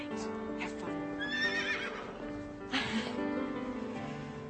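A horse whinnies in a stable, a loud, quavering neigh rising and falling over a few seconds against a steady background of faint stable noise and shuffling hooves.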